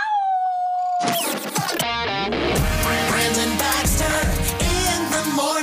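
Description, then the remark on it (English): A person lets out a brief, wavering wolf-like howl for A-State Red Wolves football, about a second long, before a loud, dense burst of music and effects crashes in and fills the rest. “let me hear you howl.”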